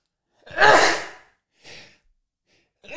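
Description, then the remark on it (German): A loud, sharp sneeze in a studio bursts out with a breathy rush, followed by a softer sniff or breath, and another burst begins right at the end. No talking. “Der Satz stößt mir so auf, dass ich direkt schon niesen muss.”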